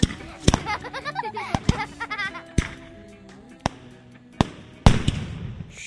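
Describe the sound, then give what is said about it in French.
Firecrackers go off in an irregular string of about seven sharp, loud cracks, each snapping out briefly over a background of excited voices and wavering cries. “Les pétards réunissaient deux de mes passions, le feu et le bruit.”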